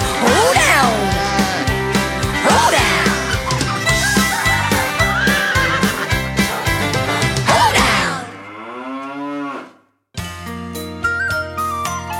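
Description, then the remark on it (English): Bouncy, upbeat hoedown music with barnyard animal noises mixed in, including chicken clucking and squawks, then a long swooping tone, a brief silence, and the tune starting up again. “It's a squawking, quacking, barking and a bawing, neighing, braying, oinking and a clucking, mooing, hooing, cock-a-doodle-dooing, barnyard hoedown.”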